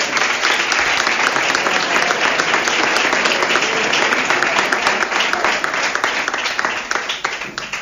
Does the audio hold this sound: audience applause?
yes